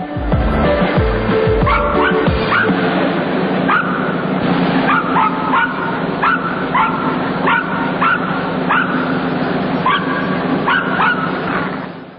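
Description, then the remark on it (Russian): Several dogs bark and yip cheerfully in quick, overlapping bursts, a lively chorus echoing in a circus ring with a steady background murmur. “Собачки в манеже, это можно понять сразу, входя в цирк, вы слышите веселый лай.”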